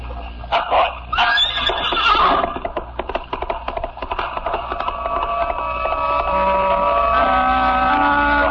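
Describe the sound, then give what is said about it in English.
A horse gives a loud, shrill whinny, then gallops away, a rapid, rhythmic drumming of hooves carrying on for several seconds over a steady tonal background. “Trailed closely by the gigantic black dog, galloped away.”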